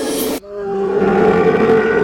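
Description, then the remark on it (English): A loud, close-by animal howl rings out after a brief burst of noise, one long sustained call with a steady, mid-pitched harmonic tone and no talking. “And suddenly you hear this horrible, loud, close by howl.”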